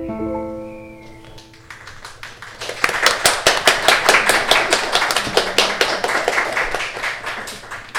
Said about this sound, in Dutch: Eindelijk dat applaus. Ja, dankjewel. Ja, dank jullie wel voor deze live, voor dit live optreden.